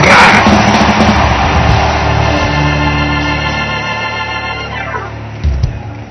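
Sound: audience screaming and cheering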